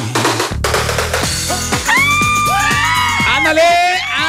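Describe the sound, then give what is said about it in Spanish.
High-pitched girls' screams and cheers rise and hold over a busy bed of music and voices, swelling loudly in the second half with long, sustained shrieks. “Las niñas gritan. Sí, enloquecieron, ¿no?”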